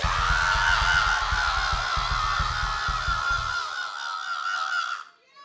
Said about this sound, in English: Now when we ask you all to scream, you need to do the ball-crunching, labia-lashing, blood-curdling yell. Are you with me? Everybody scream!